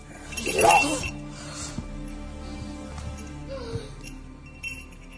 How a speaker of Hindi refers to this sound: What's this? ये घंटियाँ किस लिए? ये उसकी पहचान है